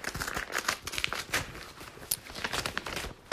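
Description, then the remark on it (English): Papery rustling and crinkling, with short bursts of ripping texture spread across a few seconds, as a returned paper envelope is torn open and handled. “Let me just open up this envelope here.”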